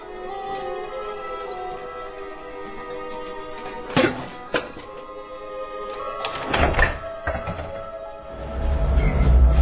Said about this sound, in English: Big, creaky door. Perfect.